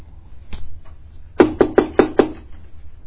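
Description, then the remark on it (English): Five quick, solid knocks on a wooden door in a steady rhythm, made by a local baker in the morning, fairly loud, preceded by a single fainter tap, with no one speaking. “So there's a knock on the door.”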